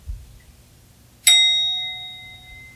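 A single bell is struck once, ringing out with a bright metallic strike and a long, clear sustained tone that slowly fades, heard alone against quiet background rumble.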